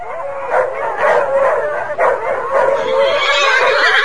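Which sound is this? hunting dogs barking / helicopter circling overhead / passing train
hunting dogs barking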